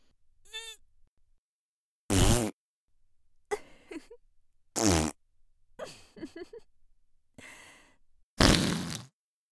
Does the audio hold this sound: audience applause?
no